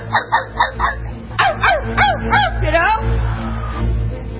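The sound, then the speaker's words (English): A person imitates a chihuahua barking: a quick run of four or five high yips, then several longer, whiny rising-and-falling yelps, fairly loud. “Bark like a dog. Not like a ferocious dog, but like a chihuahua.”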